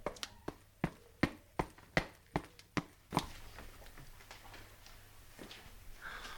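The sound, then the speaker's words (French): About nine quick, sharp footfalls in a steady rhythm as someone hurries up a staircase, fairly loud, then a faint rustling noise with no more steps. “Montons l'escalier.”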